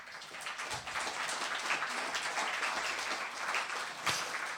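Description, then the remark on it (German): Steady audience applause, a dense wash of many hands clapping at a fairly even level with no voices on top, one sharper clap standing out near the end; the audience is applauding the people who made the artwork for the event. “Also Artwork, ganz herzlichen Applaus einfach mal.”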